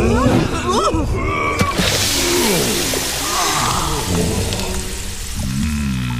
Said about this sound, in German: Er macht ein paar schnelle Schritte ins Wasser.